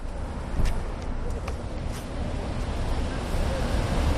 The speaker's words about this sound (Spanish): La gente continúa su día a día, siguen circulando los coches, los autobuses, los taxis. Hay ruido más allá de los pitidos.